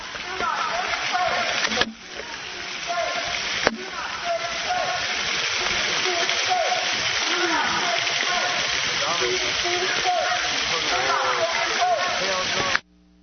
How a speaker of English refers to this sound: And that water is the sound of the duck pond.